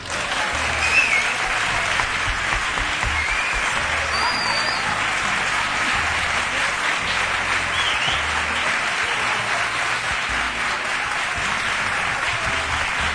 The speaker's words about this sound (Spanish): Bueno, la ovación. La ovación cerrada y merecida.